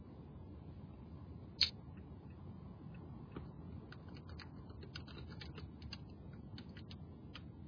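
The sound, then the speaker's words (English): Soft, irregular clicking of keys on a computer keyboard being typed on sideways, one sharper tap near the start and then a looser flurry of quiet keystrokes over low background hiss, with no one speaking. “Sorry, I'm typing sideways, kind of.”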